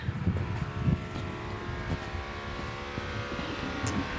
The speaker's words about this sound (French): Petite éclaircie à Bâle. Me voilà Oettlingerstrasse 25, le vent s'est un peu levé, on l'entend dans les micros.